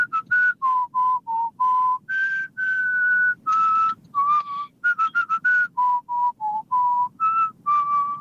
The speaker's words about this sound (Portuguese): Acho que foi a primeira vez que recebemos um palpite só assim, assobiado, sem qualquer conversa pelo meio. Mas eu gostei.